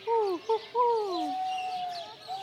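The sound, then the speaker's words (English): A man, a bird keeper standing by the owls, imitates bird calls, voicing a few quick descending warbles followed by a long sliding whistle-like note, with no other talking. “He sure does know his bird calls.”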